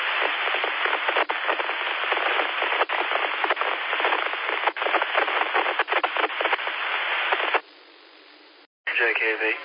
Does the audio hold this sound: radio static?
yes